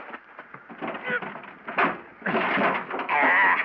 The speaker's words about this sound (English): Where in it is the money, buddy? In the baggage compartment. I go pull the door open.